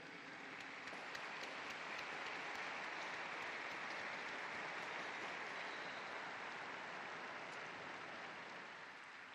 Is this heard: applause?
yes